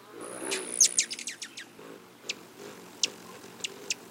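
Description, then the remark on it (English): A rufous hummingbird gives a quick burst of sharp, high chips, then a few spaced single chirps, with a thin, high whirring tone at the start. Fairly clear, with no voices. “Nearly all the rufous hummingbirds will begin their migration by late August, sipping their way south on high mountain wildflowers all the way to Mexico, until they whistle into our lives again in spring.”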